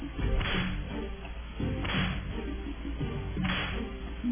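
Three sharp whip cracks snap out at roughly even intervals, loud and close, each a brief bright lash over a steady low rumble with no voices.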